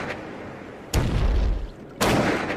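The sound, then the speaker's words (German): Two sharp, loud snapping cracks about a second apart from a newly discovered species of pistol shrimp snapping its claw, each a sudden burst over a steady underwater-like hiss, the first trailing a low rumble. “weil der Krebs eine Schere hat, mit der er extrem lauten Knall machen kann.”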